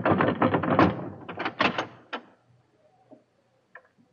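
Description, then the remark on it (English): A heavy door is unbarred and opened: a burst of rattling wooden and metal clatter, a few sharp clunks, then quieter knocks as it settles. “unbar the door.”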